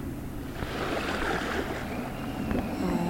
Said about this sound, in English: In the distance, you can see a few different boats. It looks like a relatively larger boat that might be a ferry coming in.